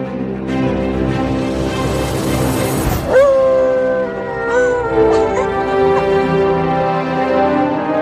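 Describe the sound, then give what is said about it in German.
A female dog howls along with a song, drawing out long, wavering, sliding notes, with a sharp surge of noise partway through before the howling settles into steadier tones. “Aber das Hundemädchen macht auch mit.”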